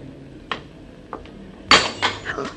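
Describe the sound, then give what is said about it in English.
Glass milk bottles clink twice lightly, then are dropped by someone carrying too much and shatter in a loud crash, followed by a scatter of smaller tinkling pieces. No one speaks. “I'll pick up the broken glass and the milk bottle and wrap it in paper so nobody else gets hurt.”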